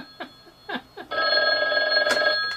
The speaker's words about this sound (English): Boy, that phone's ringing off the wall this morning.